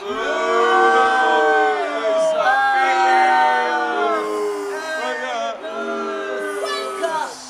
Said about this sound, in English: You see, gladiator? My people cheer for me. I think you'll find that was for me. Are you cheering for me?